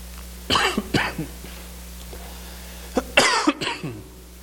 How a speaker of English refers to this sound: You'll have to excuse me this week if I'm cough my way a little bit through it. I've been battling a cough this week.